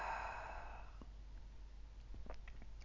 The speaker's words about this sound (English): Keep breathing in through your nose and out through your mouth.